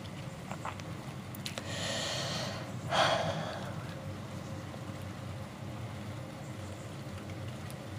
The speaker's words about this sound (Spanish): Lo que escuchas de fondo es la lluviecita, está lloviznando. El bosque está enfrente mío y la montaña con la cueva.